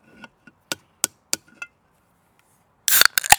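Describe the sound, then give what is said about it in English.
A handful of sharp, separate clicks and taps, then a sudden hissing crack as a can of lemon-flavoured Coke pops open, followed by a short fizzy rush and a couple more snaps. “Oh, that was better fizz, better crack.”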